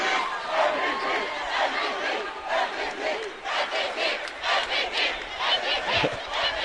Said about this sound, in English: Crowd chant MVP, I'm not sure who they're talking about. There's a lot of valuable players out there for the Yellow Jackets.